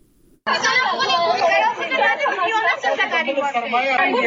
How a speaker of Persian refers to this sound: صدای گریه و ناله شماره از دختران محصل انستیتوت های طبی در افغانستان است که امروز پشت درهای بسته این انستیتوت ها قرار گرفتند.